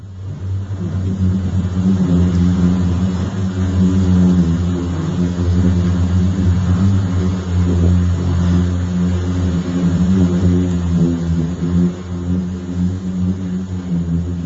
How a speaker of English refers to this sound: Actually, we have a clip of the Death Valley Eureka Dunes, which I think have been described as singing sands. So we'll hear a little bit of the hum right now.